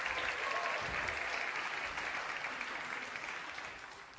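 Audience applause fills the moment, a dense, steady wash of many hands clapping at once, sustained without break and easing off slightly toward the end. No one speaks over it.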